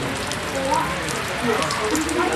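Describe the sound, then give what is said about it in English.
Steady, heavy rain drumming on a rooftop in Fiji after Category 2 Tropical Cyclone Irmel passed between Fiji and Vanuatu, a dense continuous patter that stays loud and even throughout with no pauses. “That was a common sound on most rooftops across Fiji earlier this week. Rain, rain, rain, and lots of rain.”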